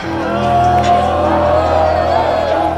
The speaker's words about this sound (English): That yelling you hear is almost all player.